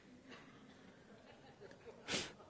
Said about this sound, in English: Blow your nose. Do whatever it is you got to do.